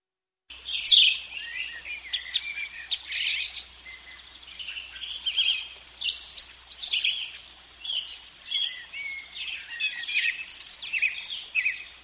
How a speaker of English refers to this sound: The birds,